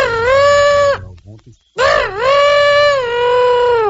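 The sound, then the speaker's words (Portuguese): A person imitates an elephant trumpeting in two long, strained, high wailing calls with a short gap between them, performed live during a live stream, the voice loud and bathed in an added echo effect. “Eu vou pessoalmente, eu não mando gravação, eu vou pessoalmente e faço o elefante pra você.”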